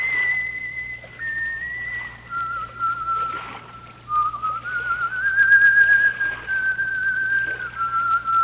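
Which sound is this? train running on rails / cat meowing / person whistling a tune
person whistling a tune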